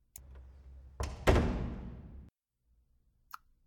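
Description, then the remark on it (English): A classroom door is shut with a couple of heavy thuds that ring out briefly, followed after a pause by a single small click. “Oh, you want me to shut the door?”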